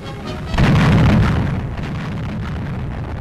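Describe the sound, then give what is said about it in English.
A single heavy blast of a gun fired in a memorial salute erupts with a deep, booming low-end burst, then rolls and rumbles away into a long, fading reverberation. “They load the gun, aim it. Then a burst of thunder.”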